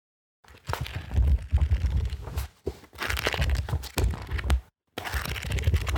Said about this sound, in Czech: Toto je foukání podzimního listí.